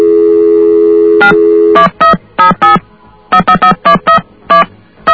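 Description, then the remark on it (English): A steady telephone dial tone cuts off into about a dozen touch-tone dialing beeps as someone calls directory information in Idaho, short dual-pitched bursts in quick, uneven groups. No voices are heard. “Okay, we are calling information in Idaho.”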